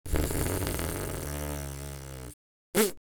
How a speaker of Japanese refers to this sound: あ、おなら出すの気持ちいい。